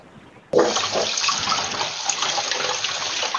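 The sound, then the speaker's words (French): A tap bursts on abruptly and water runs in a steady, hissing stream for about three seconds as a glass is filled. No voices. “Alors, je fais pas ma vaisselle, je me sers un verre d'eau, s'il te plaît.”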